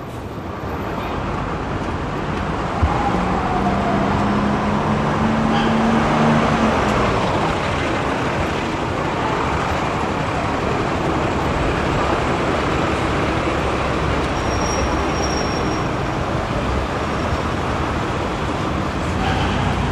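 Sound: city street traffic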